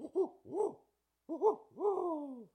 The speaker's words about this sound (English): And what a barred owl says is, who cooks for you, who cooks for you all. So listen to this.